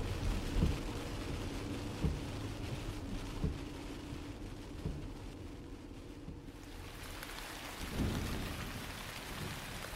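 rain falling

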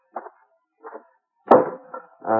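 axe chopping kindling wood

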